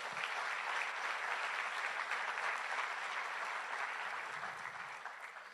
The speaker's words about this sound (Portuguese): quem pode dar salva de palmas ao Senhor?